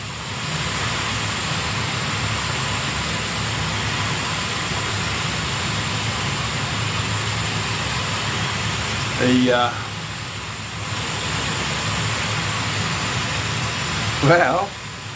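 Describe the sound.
A hot shower runs with a steady, unbroken rushing hiss throughout, while a person gives two short voiced sounds, like a sigh or a hum, near the end.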